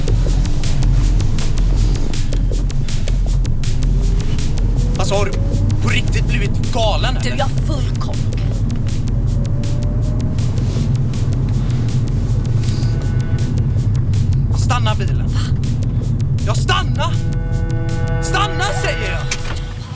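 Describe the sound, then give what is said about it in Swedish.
A car engine drones steadily as an inspector's car is driven, a loud, continuous low rumble from start to finish, with faint voices briefly surfacing over it now and then. “Jag slänger hennes mobil i vattnet och sen... hoppar vi in i inspektör Selbergs bil.”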